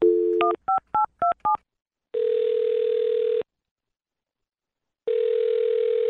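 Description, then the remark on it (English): A phone number is dialed: a short burst of dial tone, then five quick touch-tone beeps, followed by long ringing tones on the line with a pause between them. No one speaks. “Well, I'm going to dial this phone number right now.”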